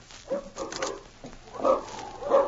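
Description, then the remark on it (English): Dogs in front of a cabin at night bark in an agitated commotion, a handful of sharp, irregular barks and yelps, loud and overlapping, with no one speaking. “What's the matter with those dogs?”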